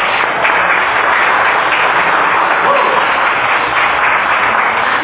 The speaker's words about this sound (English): Why don't you give him a round of applause and enjoy the show.